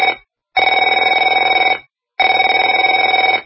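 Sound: telephone ringing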